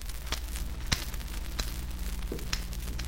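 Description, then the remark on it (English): Scissors snip a few times at an uneven pace, each cut a short, crisp click over a steady low background hum. The snips are fairly quiet, and no one speaks. “It was a pair of scissors.”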